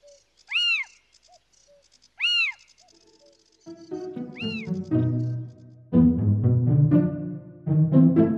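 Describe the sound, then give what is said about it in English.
A little owl, bobbing its head up and down and side to side, gives three loud, high-pitched rising-and-falling calls, spaced a couple of seconds apart, then music swells in beneath and takes over. “This is a little owl, calling to a mate, or perhaps defending a newly established territory and preparing to scan its habitat in a nightly search for food.”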